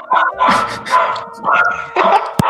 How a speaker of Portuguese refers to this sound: Se olha, é só falar do nome dessa mulher que ela começa a latir.